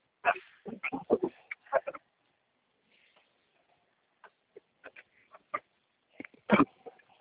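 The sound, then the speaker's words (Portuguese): A dog barks in short bursts during a phone call, a quick flurry at first, then scattered single barks after a pause, ending with one loud bark. The sound is thin, like it's coming through a phone line. “Alô, era o cachorro.”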